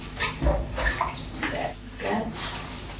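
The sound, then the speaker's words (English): Water sloshes and splashes in a basin as something is washed and scrubbed in warm, salty water, a steady series of wet churning bursts. “Wash it, soak it first in kind of look like warm, salty water.”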